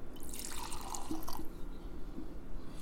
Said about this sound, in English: So right away, just as you open it and pop the cork and pour it into the tumbler, the thing about the Glenturret 10-year-old peat smoke is anything that puts peat smoke in the name is trying to tell you something, right?